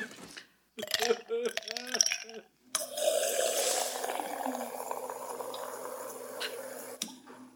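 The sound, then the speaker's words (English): Ice cubes clink against a tumbler in a short burst of bright tinkles, then a steady rush of cold water pours over them for several seconds before stopping. “a tumbler of your coldest water. Lots of ice, please.”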